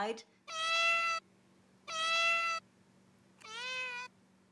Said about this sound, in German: Das hier zum Beispiel ist eine Türszene. Die Katze möchte raus.